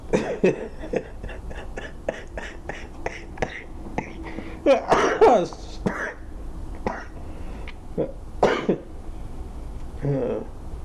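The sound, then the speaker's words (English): A run of quick, breathy laughter pulses breaks into harsh coughing, with a few more scattered coughs and throat-clearing sounds trailing off afterward. “That started out as laughter at my own joke, but ended up being a cough.”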